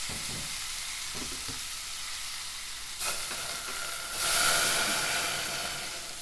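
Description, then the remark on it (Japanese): Steady crackling sizzle of chicken being stir-fried in a pan until cooked through, with a few soft stirring scrapes early on and a louder burst of hissing toward the end. No one speaks. “ではこのまま鶏肉に火が通るまでじっくり炒め続けましょう。”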